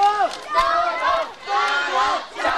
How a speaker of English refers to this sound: Hundreds, possibly thousands of young demonstrators marched, shouting, "Go China!" and "Sichuan be strong!" They also shouted their support for President Hu Jintao and Premier Wen Jiabao.